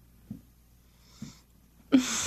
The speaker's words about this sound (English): Baby. Baby, you need to wake up. You're snoring again.